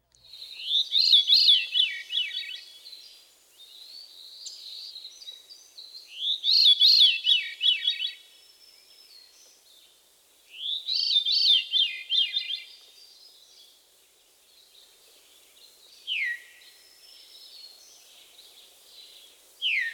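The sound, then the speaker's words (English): Three spiraling, downward-cascading Veery song phrases ring out a few seconds apart, followed by a couple of short, slurred descending call notes, clear with no talking. “Here again is the mysterious song in the call notes of the Veery.”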